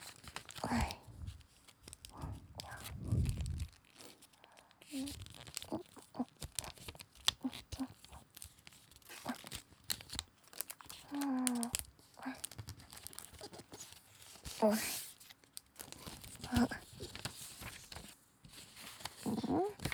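Origami paper being folded and crinkled, a steady stream of soft rustles, crisp crackles and sharp creases throughout, with a few brief faint vocal sounds mixed in.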